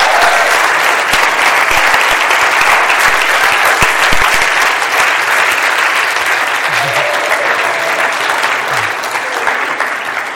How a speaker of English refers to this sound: So let's give him a cheer